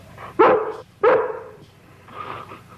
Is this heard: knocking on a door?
no